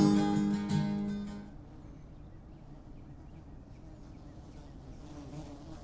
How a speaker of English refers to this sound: Oh, the bees or something today. Got bumblebees or carpenter bees or something flying around all over the place.